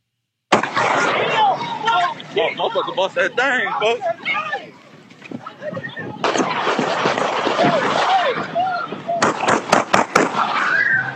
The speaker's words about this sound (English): things in Chicago are immensely violent. Check out this video of actually gunshots going off. This is crazy.